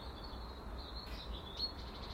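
A blackbird sings faintly in a garden on a dry, fairly calm morning with a light breeze in the treetops, a thin thread of high warbling notes over quiet outdoor background, with one brighter chirp rising near the end.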